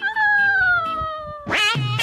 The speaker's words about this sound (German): Boah, jetzt kommt hier eine Katze.